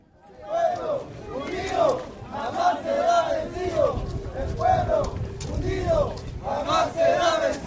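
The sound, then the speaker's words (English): A crowd of hundreds of indigenous people, armed with sticks, rocks, clubs, metal rods, bottles and tree branches, roars and shouts in repeated surging waves while rioting at a polling station in a slum area of Santa Cruz City, Bolivia, many voices rising together in loud, chant-like bursts over a constant low rumble. “A crowd of hundreds of indigenous people, all armed with sticks, rocks, clubs, metal rods, bottles, tree branches, pretty much everything they can get their hands on, are now at”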